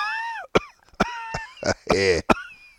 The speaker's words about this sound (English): I've just been here trying not to cough too much.